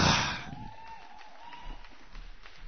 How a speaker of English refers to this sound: And keep on clapping our next poet all the way from Miami, Florida,